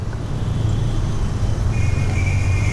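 Steady rumble of street traffic with engines droning, a higher whining motor tone rising in the second half as motorcycles and mopeds pass. No voices.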